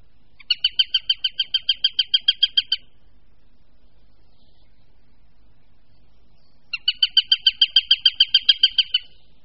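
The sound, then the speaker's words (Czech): A Eurasian sparrowhawk gives two bursts of rapid, evenly spaced sharp notes, about a dozen each, separated by a few seconds of silence; the calls are clear, with no voices. “Možná, že vás překvapí, že je to dravec na našem území téměř všude přítomný, a to nejenom ve volné krajině, ale i v mnohých městech.”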